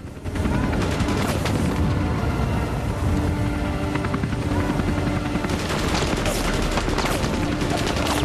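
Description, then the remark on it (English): A helicopter's rotor drones steadily while bursts of rapid gunfire, fired from the helicopter at a man taking aim from behind rocks, crackle over it, sharp repeated shots that flare up loudly near the end. “He takes aim at the group but is fired on from the helicopter.”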